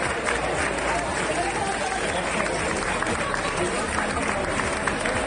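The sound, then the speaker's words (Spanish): A crowd applauding in the IKEA building as people celebrate being reunited there, with dense, continuous clapping at a steady level for the whole stretch and an indistinct murmur of voices mixed in. “Este aplauso que suena de fondo está demostrando la alegría que tenían todos de poderse reencontrar de nuevo en un edificio que en las últimas semanas se ha convertido en un puesto avanzado.”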